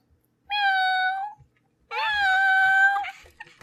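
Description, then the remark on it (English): A voice imitates a cat with two drawn-out meows, fairly loud, separated by a brief pause; the second is longer and slightly wavering in pitch. “Meow.”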